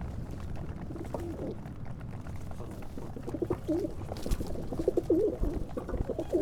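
Pigeons coo in repeated soft, throaty phrases at the Kamienica pod Gołębiami tenement house, 6 Piwna Street, over a steady low rumble of outdoor background noise, the calls growing clearer and more frequent toward the end.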